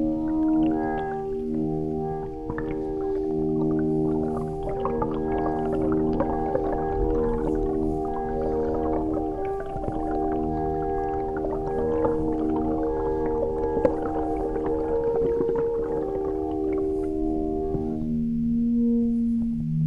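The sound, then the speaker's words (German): Sustained, droning string tones from a stick found by the Rhine, strung with two harpsichord strings and fitted with contact microphones, held in the river so the current bows it. Layered harmonics shift and swell in a whale-like moan, with scraping and watery rumbles throughout, steady and fairly loud with no talking. “es ist im Prinzip sozusagen ein Stock, den ich am Rhein finde, auf den zwei Harpsichordseiten gespannt sind mit Kontaktmikrofone, den ich ins Wasser halte und der sozusagen die Strömung von der Strömung bespielt wird.”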